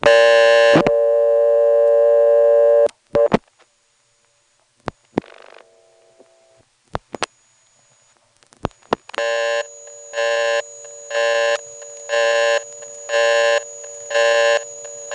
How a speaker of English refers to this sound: the hum gets louder, and you hear a sort of rotary switch operating in the background